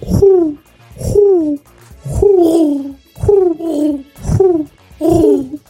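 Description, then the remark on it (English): A person imitates a dove-like coo, repeating about seven short, breathy hooting calls in a steady rhythm, each gliding downward in pitch, fairly loud with brief pauses between. “How can you roll your R's but you can't fucking coo?”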